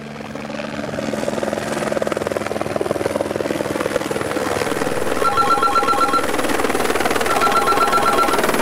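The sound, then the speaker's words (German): A Rega rescue helicopter's rotor thuds steadily and loudly in Switzerland, a dense rhythmic chopping, while an electronic telephone ring trills in short repeated bursts over it in the second half. “Gerade in den Bergen sind die Rettungshelikopter noch etwa die einzige Chance auf schnelle medizinische Hilfe.”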